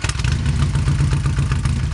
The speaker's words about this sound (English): Yes, talking about Harley Davidsons. When you hear it, you know it, right? Especially around here, Milwaukee's motorcycle maker.